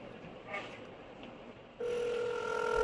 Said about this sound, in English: Phone call.